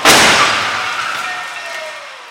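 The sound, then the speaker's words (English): A sudden, loud crash as a redesigned X1 car, dragged up to 40 miles per hour, hits in an IIHS crash test, followed by crunching metal and a high metallic ringing that slowly fades over about two seconds, with no one speaking. “Destroying this car in the hopes that maybe its next incarnation can be even safer.”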